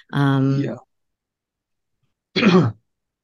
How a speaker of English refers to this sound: Excuse me, clearing my throat here.